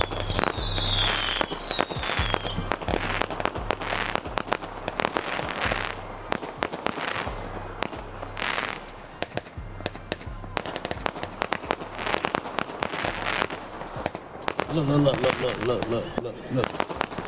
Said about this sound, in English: After it's all said and done, I'm gonna punch niggas and then we just gonna pull out with these fireworks.